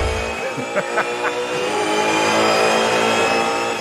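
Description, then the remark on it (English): Race cars roar and rev on a TV broadcast of the Bathurst race around Mount Panorama, a loud, sustained high-pitched engine whine with harmonic layers and a few brief sharper bursts early on. “4 days of hotted up cars driving around Mount Panorama.”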